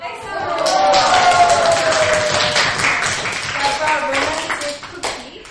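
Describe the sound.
A group of students at a Hallyu camp acting class claps loudly after a performance, a dense, steady burst of applause lasting several seconds with some voices calling out underneath, then thinning toward the end.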